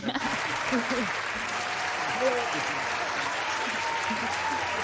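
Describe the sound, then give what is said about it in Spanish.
Sustained audience applause, a dense steady wash of clapping at an even loudness for about five seconds, with faint voices murmuring underneath. “Este aplauso para ustedes.”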